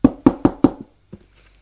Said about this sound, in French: Il frappe à la porte.